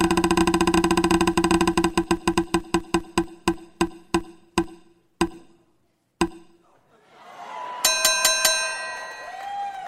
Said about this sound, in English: Let's spin the wheel.